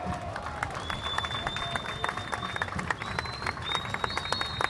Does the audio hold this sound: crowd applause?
yes